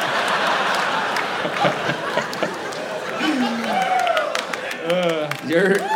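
A crowd applauds steadily for several seconds, the dense clapping mixed with cheers and excited shouts that rise and swoop in pitch toward the end.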